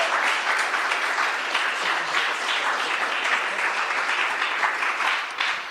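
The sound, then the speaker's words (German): A crowd applauds the speakers at an event steadily for several seconds, a dense, even wash of many hands clapping at once with no distinct individual claps and no voices over it. “Ich hätte jetzt gerne einmal einen Applaus für unsere Speaker.”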